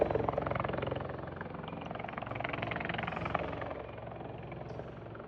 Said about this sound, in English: And I don't know if you can see the helicopter landing right there in the distance.